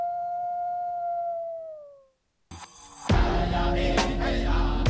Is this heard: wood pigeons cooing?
no